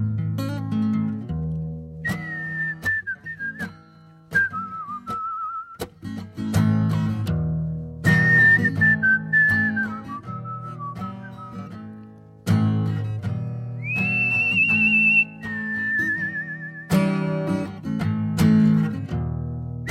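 A clear, close whistled melody with sliding notes and held tones rides over a full band accompaniment with drums, closing out a song. No one speaks.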